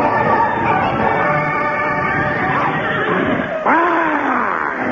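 A horse neighs loudly, a long quavering whinny that is followed by a second sharp cry sliding downward in pitch near the end.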